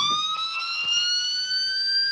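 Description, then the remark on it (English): An electronic police-style siren from a light-up toy that looks like a police car plays alone, a bright, buzzy tone sliding slowly upward in one continuous sweep, moderately loud with a few faint clicks underneath. “It is a siren.”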